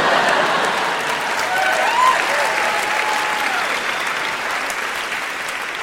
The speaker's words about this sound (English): And that was Massachusetts. And we applauded.